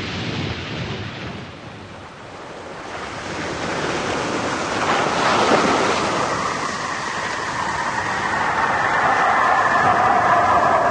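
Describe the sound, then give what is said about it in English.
A spacecraft splashes down into the ocean about a quarter of a mile off a beach: a loud, steady rushing roar swells into a heavy crash of water midway, then churning surf continues beneath a high, sustained whine. No voices. “We're going to hit the water about a quarter of a mile off the beach.”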